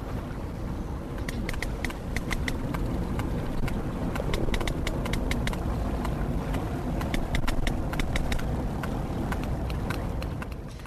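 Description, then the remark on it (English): Sperm whale clicks: sharp, dry knocks arriving in loose, uneven trains, sometimes quick and clustered, over a steady low rumbling wash of water noise. No one speaks. “We actually have a recording of a sperm whale.”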